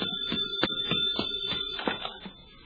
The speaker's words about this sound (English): I'll get it. The phone, Bill, the phone.